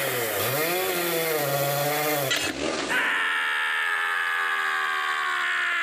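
A chainsaw roars, its engine pitch rising and falling as it revs, then bogs down briefly and settles into a steady high whine as the blade bites through the wood of a small fir tree being cut down.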